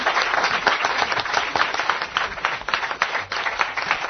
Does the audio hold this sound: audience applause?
yes